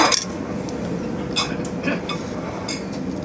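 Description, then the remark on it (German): Several bright glass clinks ring out at irregular moments as glasses of beer, including wheat beer, touch in a toast, over a low murmur of room noise and faint voices. “Und Weißbier. Danke. Zum Wohl, ne? Danke. Okay. Ja, Prost”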